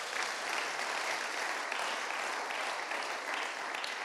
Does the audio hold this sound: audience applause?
yes